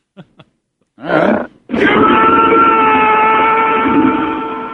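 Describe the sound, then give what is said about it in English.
A model train starts up: two small clicks, a short rushing burst, then a loud, steady whistling tone over a rumbling chug that holds to the end, with no voices. “Those model trains.”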